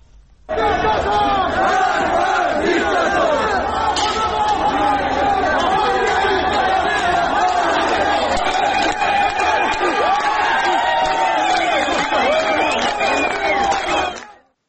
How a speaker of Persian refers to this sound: شعارهایی هم داده شد، از جمله شعارهایی که خوب داده می شد یکی نترسید نترسید با هم هستیم و همینطور مرگ بر دیکتاتور که در فیلمهای متفاوتی که می اومد این شعار داده می شد.